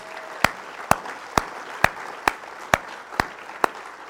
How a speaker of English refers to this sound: I think God deserves an applause for his hand.